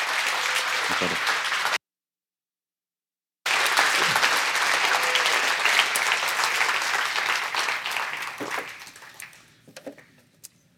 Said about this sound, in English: We don't usually clap for our preachers, but maybe you can join me in welcoming your future elder